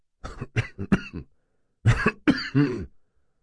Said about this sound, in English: Pop coughed a few times.